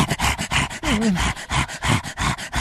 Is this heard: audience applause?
no